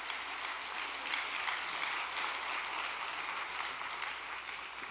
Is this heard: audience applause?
yes